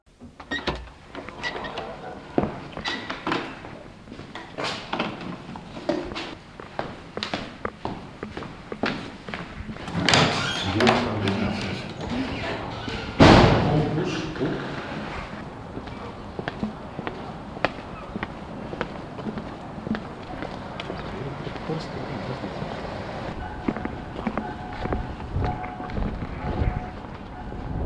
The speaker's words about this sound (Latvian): Esam izgājuši no pagājušajā gadā izveidotās Himzela klases muzejā, devušies ārā no muzeja telpām un ejam garām Rīgas domam.